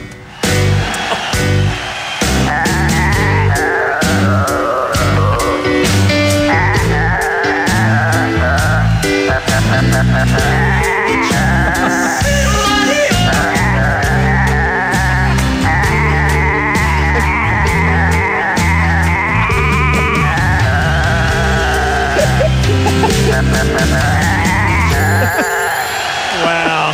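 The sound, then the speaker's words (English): Goats bleat nonstop over a dense musical backing, their wavering cries rising and falling like a melody, loud throughout without any talking. “What versatile goats.”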